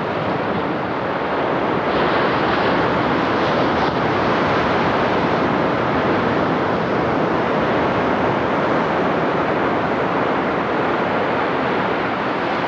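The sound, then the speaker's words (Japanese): A steady, loud rush of surf washing onto the beach at Nakahama in Yamamoto town, continuous with no clear pauses between waves. No voices are heard. “もうこのところシリーズでお伝えしています、10年後の渚です。今日は山本町の中浜です。”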